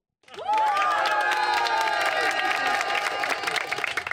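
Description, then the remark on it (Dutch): A crowd at a festive handover of a donation bursts into loud, sustained applause and cheering, with high whoops and shouts over dense, steady clapping that keeps going for several seconds. “Zo, het applaus was raak.”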